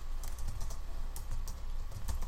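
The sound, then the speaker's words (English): Rapid, irregular clicking of keys on a computer keyboard as someone types a web search, fairly quiet, with a steady low background hum and no voices. “We can hear okay. You typing.”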